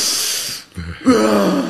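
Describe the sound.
A voice imitates the sharp, gasping first breaths on entering cold water: a hissing inhale, a brief pause, then a louder, shuddering gasp with a voiced edge, fairly loud.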